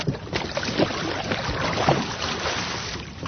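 Splashy water sounds of a paddle pushing a small boat off, with a few soft knocks and a steady wash of wind and water. No one speaks.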